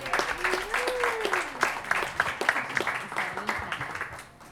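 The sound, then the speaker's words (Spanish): An audience applauds steadily for a few seconds for a journalist being introduced, a dense patter of many hands clapping with a voice rising and falling over it, before the clapping tapers off at the end. “Bien, un aplauso”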